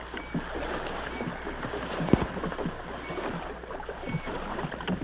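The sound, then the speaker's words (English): Oars dip and splash as a small boat is rowed alongside a ship, with a sharp knock of wood partway through, over steady low water and wind noise; no one speaks. “As Nick rowed, the captain cut the ropes on the sergeant's legs.”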